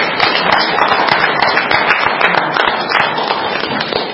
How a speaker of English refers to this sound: and I want to ask the audience to give these two individuals a round of applause for outstanding presentation leadership in their presentation to the Iowa State Association of Counties.